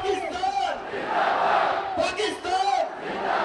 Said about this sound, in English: As the crowd bellows, "Long live Pakistan," black-clad Pakistani rangers stomp closer and closer to their Indian counterparts, heels clicking.